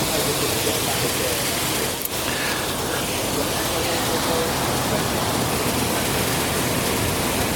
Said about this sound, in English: so we're basically, every lock we go into, we need to fill that lock with water and raise the ship up as we go further in. They tie us down when they get in the lock. There we go. The water is now rushing in to the lock.